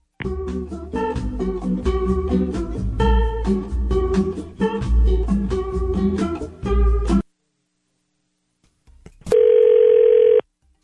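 Upbeat music plays for several seconds, then stops. After a short silence there is a click and a single steady, mid-pitched telephone ringing tone lasting about a second, as radio station 102.9 The Wolf places a call to a listener.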